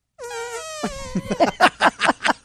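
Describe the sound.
Two people blow mouth fart noises: a buzzy, drawn-out tone that sags slightly in pitch, then a string of about eight sputtering raspberry bursts that grow louder, with no talking.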